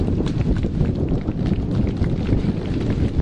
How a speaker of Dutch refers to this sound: Het waait in ieder geval flink. Ben ik nog te verstaan eigenlijk?